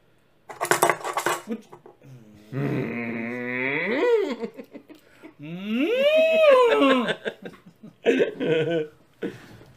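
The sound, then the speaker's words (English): A person imitates a cow, making two long, drawn-out moos whose pitch swells upward and then drops, with short breathy or clattery bursts before and after them. “Sweet ass cow noises.”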